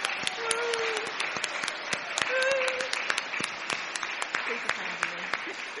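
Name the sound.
round of applause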